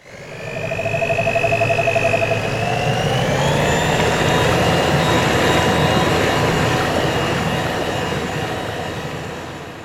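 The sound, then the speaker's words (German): A steady, low mechanical drone with a churning, bubbly texture from a mixer running in a bucket of water, pitched down to imitate a motorboat engine, with a faint whine that rises partway through. No one speaks. “Hierfür verwenden wir den Mixer in einem Eimer Wasser.”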